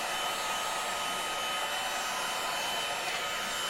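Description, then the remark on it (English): A heat gun used by an encaustic artist to melt wax blows a steady, unbroken rush of air, a broad hissing roar with a faint whine running through it. The level holds constant throughout, and no one speaks. “Heat gun. So here's the noise.”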